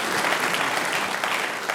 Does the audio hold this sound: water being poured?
no